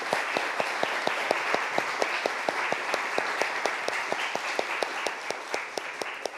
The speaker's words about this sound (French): Donc, je crois qu'on peut applaudir nos intervenantes et nos intervenants.